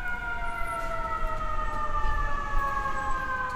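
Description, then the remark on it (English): An emergency vehicle siren wails steadily over a dense low rumble of slow-moving New York City traffic as it battles to make its way through, its tone sliding slowly downward as it holds loud for the whole stretch. “The first thing you notice, wherever you are in New York, is the sirens as they battle to make their way through slow-moving traffic.”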